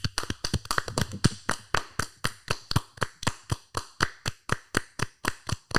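A few people clap together, quick and uneven at first, then settling into a steady, slightly slowing rhythm of sharp, bright claps with no talking.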